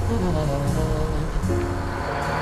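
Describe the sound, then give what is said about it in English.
A boat engine, just started at the dock, idles steadily, a loud, continuous low droning rumble with a humming mechanical tone that holds even throughout. “I got the engine running.”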